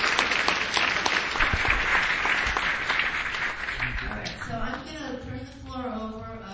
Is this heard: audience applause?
yes